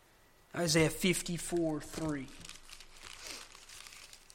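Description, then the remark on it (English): Thin Bible pages rustle and crinkle as they are turned, a soft papery shuffling that continues on its own after a brief stretch of voice at the start. “I know you might be getting tired of turning pages, but hey, the power is in the voice of the Word of God, not in my just telling you the stuff.”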